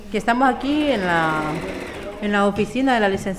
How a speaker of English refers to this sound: She sits at the sewing machine, cranking out face masks for other migrants.